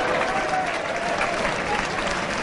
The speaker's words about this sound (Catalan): i ara acaben de tancar la seva actuació a falta del Pilar. Amb el 2 de 8 en folre. I d'aquí aquests aplaudiments de la plaça.